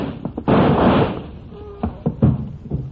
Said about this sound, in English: Now open the door so we have some light.